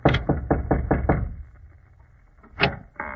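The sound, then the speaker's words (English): A quick, even run of about six firm knocks on a door, then a pause and one sharper single rap near the end; the door is off a foggy cobblestone street. “Well, here's the door. Knock.”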